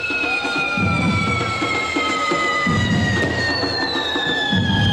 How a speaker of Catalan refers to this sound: Idò, aquest renou de trons no se sentirà demà a Llubí en el que serà el primer, com deien, correfoc, diguem, inclusiu, que s'hagi fet aquí a les Illes.